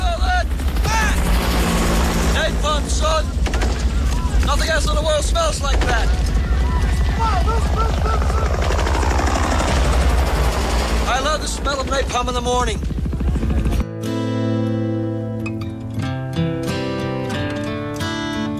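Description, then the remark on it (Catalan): Loud battle din from a scene of the film Apocalypse Now with red skies, helicopters and fire: a steady low helicopter rumble under bursts of rapid gunfire and shouting voices, cutting off abruptly after about fourteen seconds into a calmer musical passage. “També de la mà de Coppola, també amb Marlon Brando, Duvall brillaria amb el seu paper a Apocalipsi Now, en una escena icònica de cels rojos, d'helicòpters, de foc i de bogeria, amb aquella olor de napalm al matí.”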